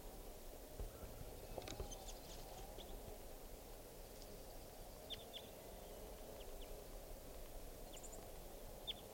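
Faint, high-pitched chirps and short twittering notes of a juvenile type 4 crossbill singing just after it bounced out of a net, coming in scattered bursts over a steady, hissing background noise.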